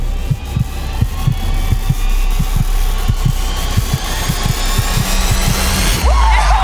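A bongo drum struck on stage by a performer, hit once and then in a few more uneven bursts, giving dull, low, muffled thumps over a steady background hum and hiss, with no one speaking.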